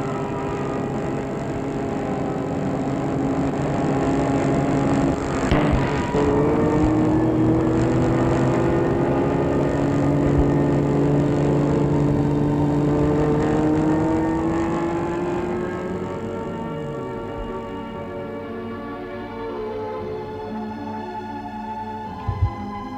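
A car engine hums steadily as the vehicle drives along a road with almost no traffic, its pitch shifting gently with speed changes before easing off toward the end. Continuous, no voices.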